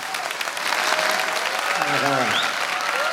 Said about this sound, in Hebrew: עכשיו, עכשיו כפיים, בהחלט.